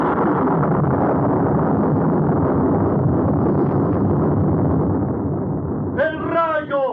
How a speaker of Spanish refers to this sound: ¡El trueno! ¡El mismo destino en su marcha triunfal!